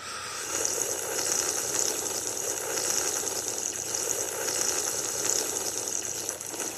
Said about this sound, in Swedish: Inte svagt sörplande från Niklas Bäckström. Nej, det var som en sexåring där.